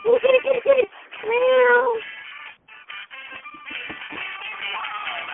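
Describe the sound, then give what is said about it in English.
A cat meows: a few short choppy cries, then one long drawn-out meow, followed by quieter household noise and a murmur of voices. “Meow. Come on, come on.”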